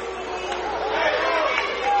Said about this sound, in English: Tiger crowd here didn't really like the call, didn't really appreciate the call.